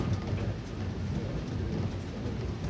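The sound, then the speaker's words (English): Steel wheels of a mountain cable car, one car pulled down as the other goes up, roll along in crisp, cold air in a steady, low, grinding rumble with a faint rhythmic clatter, continuous and fairly loud throughout, with no voices. “And then the cable car slows, and the sound of its steel wheels is drowned out by a more powerful force.”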